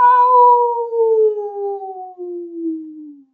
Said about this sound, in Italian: Imparò a frusciare con le foglie degli alberi, a gorgogliare con il ruscello, salutare la sua luna piena. Era così contento di quello che stava scoprendo che ogni tanto ululava.